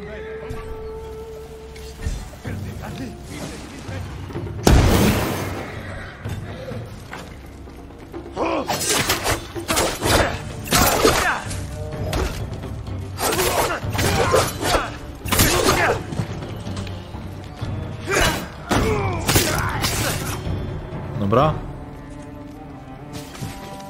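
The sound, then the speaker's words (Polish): A slightly upgraded video game powder bomb goes off in a sharp, loud blast, taking out many of them, followed by a long run of crashing, shattering impacts and thuds over a low rumbling game background. “Sporo ich rozwaliła ta bomba prochowa, bo mam ją trochę ulepszoną.”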